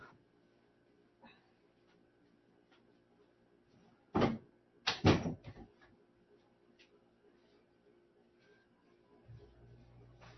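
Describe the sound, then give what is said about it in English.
A door is pushed shut: a sharp knock followed a moment later by a louder double thud and a brief rattle, against a quiet, faint background hum. “I got to do something real quick and close the door here.”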